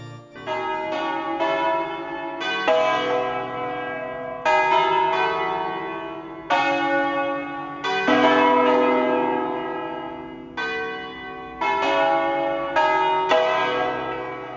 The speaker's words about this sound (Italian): Infine, il concerto di campane fu consacrato nel gennaio del 1963.